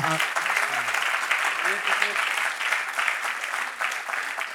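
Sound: applause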